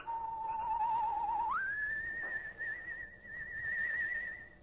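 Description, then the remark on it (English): A soft human whistle, a signal given in the still night air at the edge of a cypress grove behind a weather-beaten house, holds a steady low note, then glides up to a higher, slightly wavering tone that lingers, heard alone over faint background hiss. “Suddenly, the shadowed outline of a human figure appears at the edge of a cypress grove behind the weather-beaten Horton house, and a soft, whistled signal rides the still night air.”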